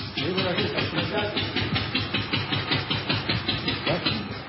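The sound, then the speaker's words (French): An old engine, started by turning a hand crank, chugs away at a museum of old trades in Lignières-Orgères with a loud, steady, rapid thumping rhythm, running continuously throughout with no pauses. “Voilà, le moteur qui se met en marche ici dans le musée des vieux métiers à Lignières-Orgères.”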